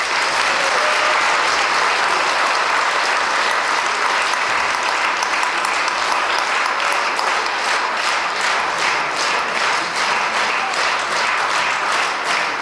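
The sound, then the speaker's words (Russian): An audience applauds steadily for about twelve seconds, a dense, even wash of many hands clapping at a fairly loud, constant level, with no voices standing out. “Давайте похлопаем ему.”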